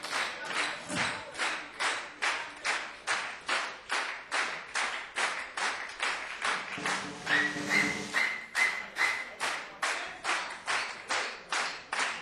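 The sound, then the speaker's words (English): An audience claps in steady unison to call for an encore, a loud rhythmic beat of about two or three claps per second, with a sustained high whistle rising above the clapping partway through. “When you stop applauding, you're gonna play.”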